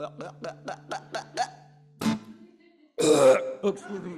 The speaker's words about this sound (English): Come on, kids, burp.